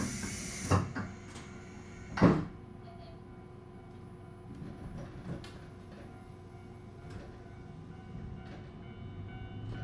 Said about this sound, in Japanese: まもなく発車いたします。ドアが閉まります。ご注意ください。